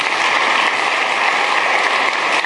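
A crowd at a service bursts into steady applause for a couple being honored, many hands clapping at once in a dense, continuous roar that stays loud and even throughout, with no voices standing out.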